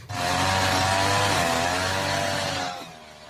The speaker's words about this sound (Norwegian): Ja, her har vi en full... Han bruker sånn gressklipper. Nei, sånn der... Oi, wow. Han var... Oi. Kantklipper. Kantklipper, da. Han var full, han.